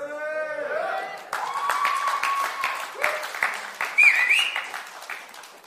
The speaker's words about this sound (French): I hope you're not cheering because of my French. J'espère que vous n'applaudissez pas à cause de mon français. I hope you're cheering because what I've just read to you.